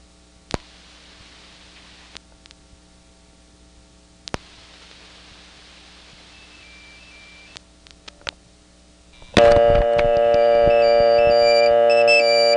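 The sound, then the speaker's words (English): A few scattered clicks and faint electronic tones on a phone line over a quiet hum, then a loud cell phone ring bursts in as Mark calls back, a sustained, buzzy cluster of high tones that continues steadily to the end. “And that, of course, was Mark calling me back on my cell phone, having dropped the phantom ring, and suddenly I could get a dial tone again.”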